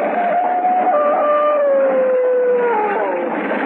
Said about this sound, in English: And in the back of it, the devil dogs ran, snarling and howling.